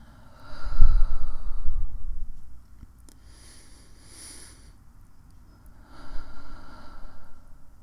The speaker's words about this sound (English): breathe out, inhale, exhale, inhale, exhale.